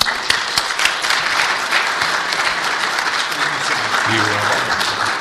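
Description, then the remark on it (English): An event audience applauds steadily for several seconds for the host and moderator, a dense, even wash of many hands clapping at once, fairly loud throughout, with a faint voice murmuring underneath toward the end. “I'd like a nice, maybe warm round of applause for our host and moderator.”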